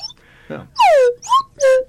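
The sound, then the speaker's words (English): A slide whistle plays three loud, bright notes: a long downward swoop, a short upward blip, then a held tone that sinks slightly. Faint murmurs come just before. “I've never played a slide whistle before.”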